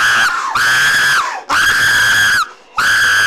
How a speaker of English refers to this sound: Stop screaming! Stop!